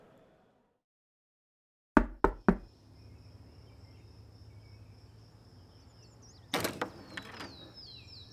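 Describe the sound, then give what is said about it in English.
Three sharp, loud knocks on the door of someone's home in quick succession, followed by a steady background hum with a high whine, then a clatter of handling sounds like a door being opened. “Damn, took you forever to answer the door.”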